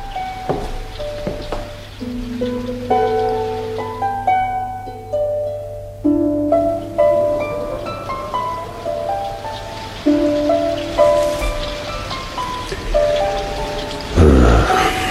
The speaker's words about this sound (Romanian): Poate se oprește și ploaia.